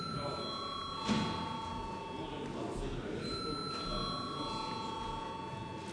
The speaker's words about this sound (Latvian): Paldies, saskaņā ar kārtības rulis, pirms mums jābalso par steidzamības piešķiršanu likuma projektam. Lūdzu, zvanu.